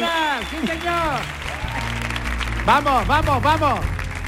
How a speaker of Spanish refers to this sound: ¡Ovación descomunal! ¡Ovación descomunal! ¡Ovación descomunal!